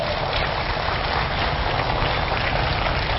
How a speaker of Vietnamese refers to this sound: Xin dành một tràng vỗ tay để cam kết.